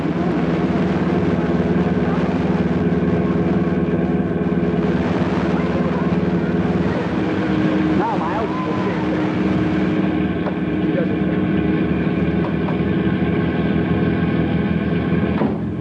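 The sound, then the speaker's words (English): A car engine drones steadily while driving on a highway, a loud, continuous low hum with layered rumbling tones that holds almost unchanged for the whole stretch. “Climb into the back seat. Time to transfer. Stay in this car until I say go.”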